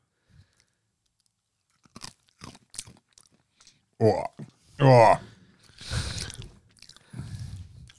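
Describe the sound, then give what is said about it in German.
Crunchy chewing on cacao nibs: a few sharp, brittle crunches, then a short exclamation from a voice, followed by more loud, gritty chewing. “Das sind Kakaonips. Muss ich die jetzt probieren?”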